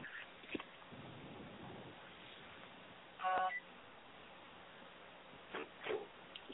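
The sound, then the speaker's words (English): A phone emits a short burst of electronic tones, like keypad beeps, followed by a couple of brief clicks and blips against a quiet background hiss as an incoming call is turned off; no one speaks. “I'm getting a phone call and I want to turn it off.”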